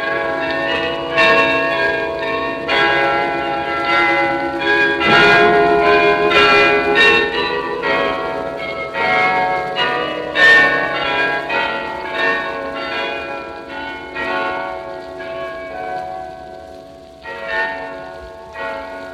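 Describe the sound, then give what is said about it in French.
Carillon bells in Amsterdam, played by the carillonneur, ring out a continuous melodic concert, many tuned bells struck in quick succession with overlapping, ringing tones, fairly loud and steady throughout, with no voices. “et nous demandons au carillonneur, pourquoi pas, de faire un concert de cloche pour nous. Vous allez pouvoir l'entendre, il peut rivaliser avec n'importe quel concert de cloche de Belgique ou de France.”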